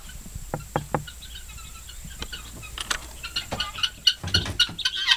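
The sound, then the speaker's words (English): A few wooden knocks, then a flock of guinea fowl starts calling as they come out of their house on a farm, their harsh, rapid cries building into an overlapping chorus toward the end. “This is the house of the guineas, and now it's time for them to come out.”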